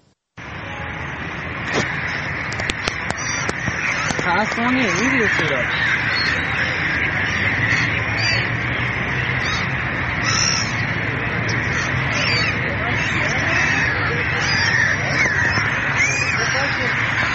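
A large flock of birds flies over the dried-up Zayandeh River in Isfahan, Iran, calling and cawing continuously, the chatter fairly loud and steady throughout, layered over a constant open-air background din.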